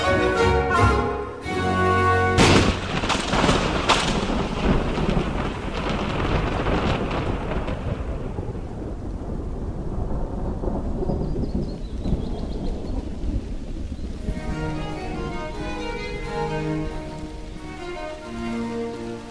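Heavy rain pours steadily while deep thunder rolls and rumbles through the first half; toward the end the storm eases and soft, sustained tonal notes rise above the rain.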